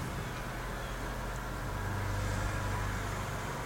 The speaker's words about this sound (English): And the cars are driving by.